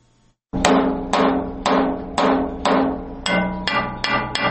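An Afghan worker's blacksmith hammer strikes metal nine times in a steady rhythm in Kabul, Afghanistan, each loud clang ringing with bright metallic overtones, the blows coming slightly faster toward the end. No one speaks.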